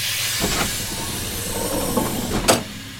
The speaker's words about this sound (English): Inner doors opening in 3, 2, 1.